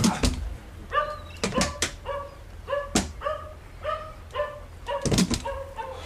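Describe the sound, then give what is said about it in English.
Sniffer dogs checking crates on a ship bark repeatedly in quick, uneven bursts, sharp, with brief yips between the louder barks and no voices. “The dogs have found something suspicious in those crates.”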